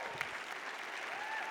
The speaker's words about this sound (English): You guys are getting me all excited with your clapping and your shouting.